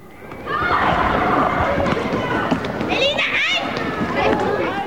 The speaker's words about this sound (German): Auf dem Wittstocker Marktplatz spielen Kinder Ball. Andere bemalen das Pflaster, fahren Skateboard. In einer Ecke steht ein Polizeiauto. Ein buntes Straßenfest, organisiert vom Bürgerbündnis gegen Rechtsextremismus.